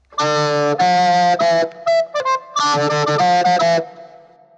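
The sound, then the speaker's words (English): Power chords played through a harmonizer: thick, stacked sustained chords in a loud rhythmic riff with a few short choppy stabs in the middle, ending in a fading ring. “Playing power chords with a harmonizer.”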